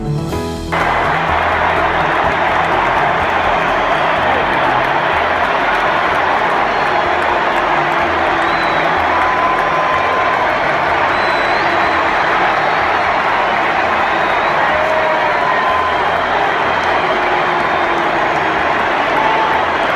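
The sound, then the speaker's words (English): A huge stadium crowd at a Georgia Bulldogs versus Alabama Crimson Tide game roars and cheers continuously for the President of the United States as he enters and walks across the field with five or six soldiers, a loud, steady wash of voices with faint whistles rising above it. “Was sort of the sound last night, not cheering for the Georgia Bulldogs or the Alabama Crimson Tide, but for the President of the United States as he entered the field, and he walked across the field with something like 5 or 6 soldiers.”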